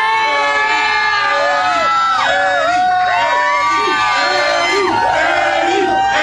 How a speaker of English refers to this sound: Yes, sir. They're chanting Eddie. What do you think, man? I think they're ready for it. Most definitely. I know y'all can scream and I know y'all can chant, but can you sing?